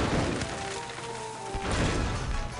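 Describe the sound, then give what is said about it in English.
A video game explosion sound effect: a loud, noisy burst, then a brief ringing tonal lull, and a second rumbling blast close behind it, with no talking. “And then you light it up. Explosions are really sad when it's quiet.”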